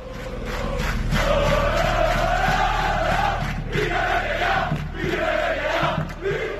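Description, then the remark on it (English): A crowd of over 15,000 football fans in Valencia, Spain, roars and chants continuously to get Peter Lim out of Valencia, voices rising and falling in a loud, sustained wall of sound with melodic chant lines running through it. “Well, I guess you only have to listen to the roaring of the fans and all of the chanting that we have over here in the background to try and get out Peter Lim out of Valencia.”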